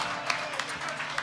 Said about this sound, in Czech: Zatleskejte Milanovi!